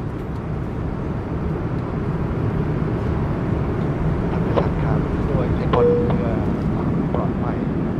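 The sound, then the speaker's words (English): A steady, loud airplane cabin engine drone on a flight from Bangkok bound for Mumbai, about an hour after departure, a dense low roar filling the whole recording, with faint muffled voices and a few small clicks beneath it. “Well, I left Bangkok about an hour ago and I've just completed my airplane meal.”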